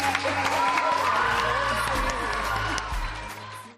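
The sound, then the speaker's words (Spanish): An audience applauds and cheers, dense clapping mixed with shouting voices and a low hum underneath, holding steady for about three seconds before tapering off. “¡Un fuerte aplauso!”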